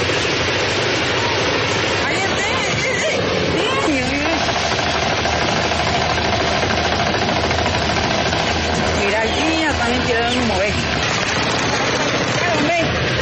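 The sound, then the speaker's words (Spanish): A military helicopter hovers in the air for a few seconds in northern Cauca, Colombia, while being attacked with rifle fire by FARC dissidents. Its rotors and engine make a loud, steady, continuous roar, and excited voices shout over the noise. “La aeronave estuvo suspendida en el aire por algunos segundos y en esos momentos fue atacada por los subversivos.”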